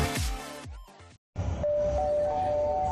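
Glass jars bound for the green glass-recycling container clink against each other, with a few bright knocks after a brief pause and then a sustained, ringing glassy tone that lingers.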